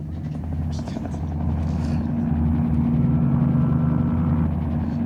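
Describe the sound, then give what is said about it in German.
A steady, loud aircraft engine drones with a deep, throbbing hum that holds throughout as the plane flies through fog, while a man speaks over the noise. “Ich kann das Ding nicht mehr lange in der Luft halten.”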